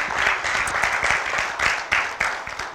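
A church audience gives a glory clap offering to Lord Jesus Christ in a dense, steady burst of applause, many hands overlapping into a loud, continuous patter with a few sharper individual claps standing out.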